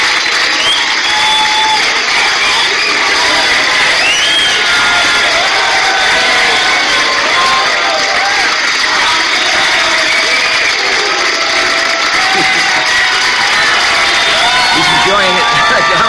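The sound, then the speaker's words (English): A large, elegantly dressed crowd cheers and applauds the president loudly and steadily, a dense wash of clapping, shouts and whistles that never lets up, with scattered individual voices calling out above the roar. “I think this crowd is maybe entirely Cuban-Americans in Miami, but they sure are on fire for our president.”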